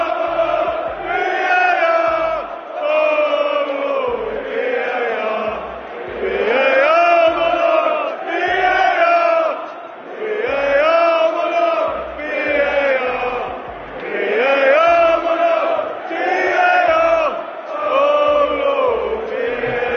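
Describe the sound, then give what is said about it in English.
A large crowd of Tottenham Hotspur football fans chants loudly and in unison about VAR, a repeating rhythmic phrase with rising and falling melody and steady accented beats, sustained throughout without pause. “That was Tottenham Hotspur fans singing their love and appreciation for VAR, which once again was at the center of attention when they met”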